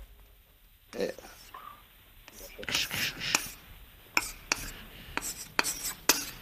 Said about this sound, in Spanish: Bueno, pero hay que escribir. ¿Escribir dónde? ¿Y con qué? En la pizarra.